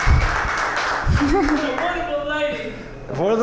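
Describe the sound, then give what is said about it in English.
An audience claps for the performer's wife in a dense, steady wash of noise while voices whoop and cheer over it, rising and falling in pitch throughout. “You know, so give a clap for her if you want.”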